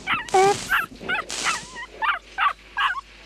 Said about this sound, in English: That's Battery's puppy. Woof, woof. Here, Battery. Here's a bone. Now go into your doghouse and be a good dog. A dog.